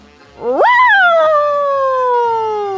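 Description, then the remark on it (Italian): A large dog, scratched on the nose by a red cat, gives a single loud, drawn-out yelping cry that shoots up in pitch, then slowly sinks and trails on for a couple of seconds, with no talking. “Abbaiava spesso il più grosso dei cagnoni, rincorrendo uno dei quattro amici spaventati.”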